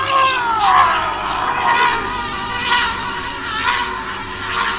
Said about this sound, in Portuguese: Eu fui sacudido por uma sequência de gritos horrendos que pareciam vir de todos os lados.